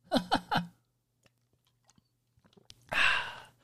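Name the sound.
sipping a soda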